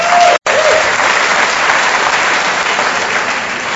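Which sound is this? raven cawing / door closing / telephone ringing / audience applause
audience applause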